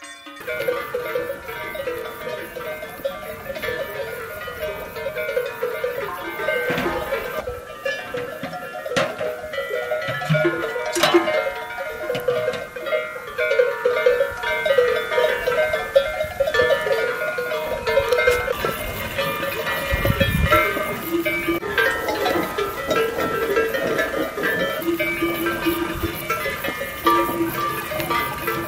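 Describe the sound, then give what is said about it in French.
A steady jumble of cow bells, brazed with copper or brass, clanks and rings from grazing cattle, many overlapping metallic tones sounding irregularly and continuously for the whole stretch, with no one speaking. “Ça brasait la sonnette.”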